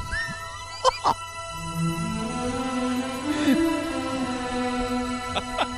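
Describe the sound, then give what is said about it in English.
A one-chord music riff: a single droning chord holds steady throughout, with a few sharp percussive hits near the start and end and a brief swell in the middle. No one speaks over it. “So it's like one fucking chord. They stole the riff basically.”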